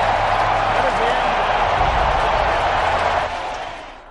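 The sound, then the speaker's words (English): Nearly 68,000 Browns fans in the Dog Pound roar after a 29-yard field goal wins the game, a dense, continuous wall of cheering that stays loud for several seconds, then begins to fade away near the end. “Nearly 68,000 fans cheering in the dog pound.”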